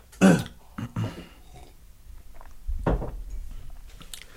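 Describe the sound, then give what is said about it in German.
After nearly coughing, someone takes a quick drink: a throaty gulp, a couple of short swallowing noises, then a soft thump like a cup being set down. No one speaks. “Da muss ich mal kurz trinken.”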